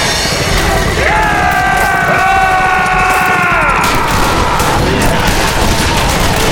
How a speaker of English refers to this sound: Soon, all five men charging the murderers and bandits were firing shotguns and pistols and rifles into the crowd as they closed ranks with them.